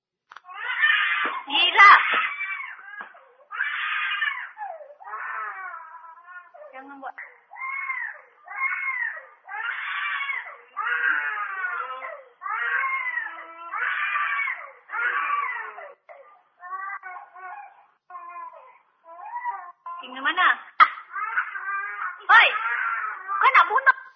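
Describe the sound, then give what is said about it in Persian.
A young child cries and screams in a long run of loud, repeated wailing bursts while a woman hits the child, with sharp percussive noises mixed in near the start and again toward the end. “یک زنی داره بچه‌شو میزنه.”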